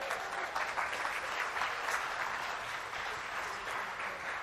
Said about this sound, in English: I'm not sure if that's a round of applause for them or the motorways, I can't tell.